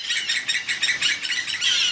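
Scarlet ibises (Guyana ibises) calling together, free in the greenhouse of the Paris Zoological Park: a dense, continuous chorus of high, rapidly repeated chirps and squawks, steady, with possible wing flutters and no talking.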